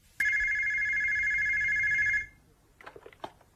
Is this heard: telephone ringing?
yes